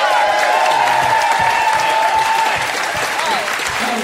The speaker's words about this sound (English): And a big round of applause for Ben Fordham.